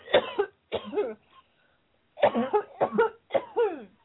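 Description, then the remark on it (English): A woman being prayed over for deliverance coughs five times: two harsh, voiced coughs, a brief pause, then three more in quick succession. They are fairly loud, with a raspy, throaty edge and no talking. “Cough again, sister.”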